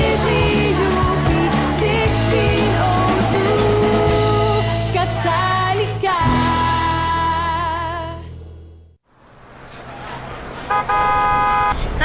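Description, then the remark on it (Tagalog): A jeepney's engine rumbles loudly while its horn honks in repeated blasts, the noise briefly dropping away before another bright horn toot near the end. “Jeep! Bigay na!”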